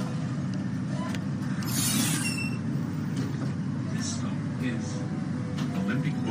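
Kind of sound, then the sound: vehicle, tram riding on rails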